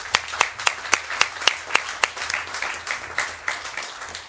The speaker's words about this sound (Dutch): Nou, dan wens ik jullie zo eens even een hartelijk applaus.